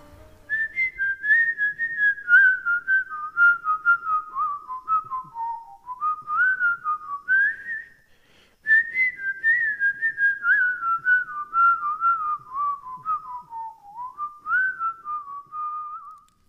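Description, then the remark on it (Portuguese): A person whistles a clear, tuneful song melody, the notes gliding up and down in phrases, with a short pause midway before the tune resumes. Steady, no talking. “Eu vou assobiar outra canção... Pra ver se ela consegue cantar.”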